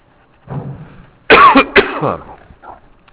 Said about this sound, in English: I needed a good cough right there.